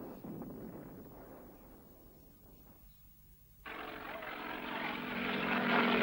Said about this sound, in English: In August 1946, 60-year-old Anna Louise Strong flew to Yan'an from Beiping by a plane of the U.S. Military Mediation Office.